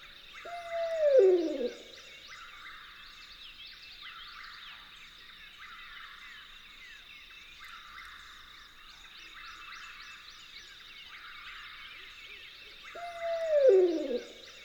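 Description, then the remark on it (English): A barred owl at a campground at dawn gives two loud, descending hoots, one near the start and one near the end, separated by a long pause, over a steady background of insect or frog trilling. “Okay, barred owl, hoot all you want.”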